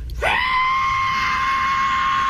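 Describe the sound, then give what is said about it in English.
A man's voice imitates a plane's screeching whistle, rising sharply and then holding one loud, steady, piercing tone for about two seconds. “This is like his impression of what the plane sounded like.”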